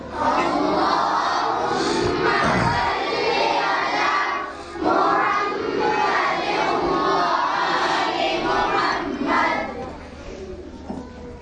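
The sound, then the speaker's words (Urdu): A large crowd loudly recites salawat together, many voices merging into a dense, sustained chant that briefly dips twice before swelling again and tapering off at the end. “ایک بار مل کے آب آواز برن صلوات.”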